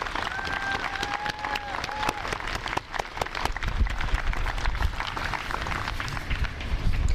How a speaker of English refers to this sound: Let's give them all a big round of applause for an excellent parade today.